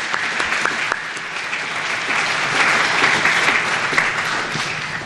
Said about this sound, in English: one more round of applause for her and for all of us.